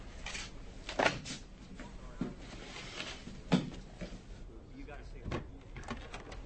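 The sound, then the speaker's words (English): A door bangs hard several times at uneven intervals, each sharp thud ringing out over a low, muffled background of voices and room noise. “Who's that door over there? Real hard.”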